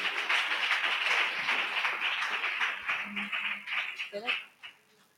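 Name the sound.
audience clapping hands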